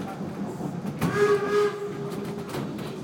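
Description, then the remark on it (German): A steam locomotive's whistle sounds once, a sustained harmonic tone lasting under a second, over the steady rumble and hiss of a moving train running from Binz to Göhren on the island of Rügen, Germany, at up to 30 km/h with carriages partly 100 years old; no voices are heard. “Mit Dampflok.”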